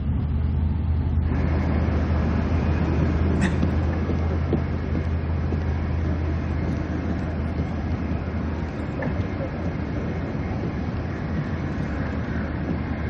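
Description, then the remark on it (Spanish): Steady, low rumble of a bus engine and road noise heard from inside, continuous and even at a moderate level, with a faint short click early on. “Si quiere dormir, vaya en tren y no en autobús.”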